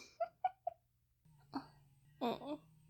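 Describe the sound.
Three quick, short coughs in a steady rhythm, fairly soft, followed by a low hum and a couple of brief voiced sounds.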